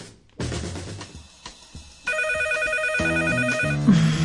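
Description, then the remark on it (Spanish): A phone ringtone plays: a bright electronic melody that shifts into a fast, warbling trill of alternating tones, loud and continuous with no voices. “Si tu teléfono vuelve a sonar, me desnudaré delante de todos.”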